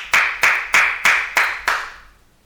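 Six sharp, forceful hand claps in a steady, fairly quick rhythm, each with a bright, harsh crack that rings briefly before the next; loud, with no talking.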